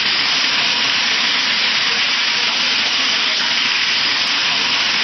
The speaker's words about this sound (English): Kids clinging onto the, you know, the trees like ants, surrounded by rushing water.